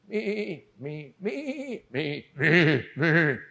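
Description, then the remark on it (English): A human voice imitates a sheep, giving six wavering, nasal bleats in quick succession, the last two louder and longer, with no other sounds around. “Me, this is a sheep of the world.”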